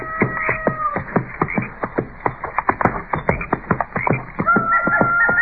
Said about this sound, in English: It sounds to me like most of those coyotes are up around those river bluffs there by the bend.